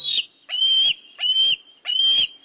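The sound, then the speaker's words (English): A juvenile bald eagle, not long out of the nest, repeatedly gives high, thin, whistled calls, about four drawn-out squealing notes in a steady rhythm, fairly loud with no other sounds. “National symbol though it may be, this juvenile bald eagle, not long out of the nest, is anything but graceful at the moment.”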